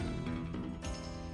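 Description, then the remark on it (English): A person imitates a goat's bleat, a loud, nasal and wavering cry held for a little over a second with a brief break partway through. “That sounded more like a goat than any goat thing I've done.”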